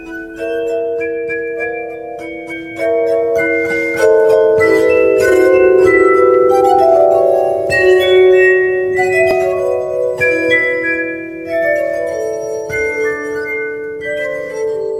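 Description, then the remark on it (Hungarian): Cold, glassy bell chimes ring out in overlapping tones, each strike shimmering and slowly fading while new ones layer on top, steady for the whole stretch with no voices. “hideg harang.”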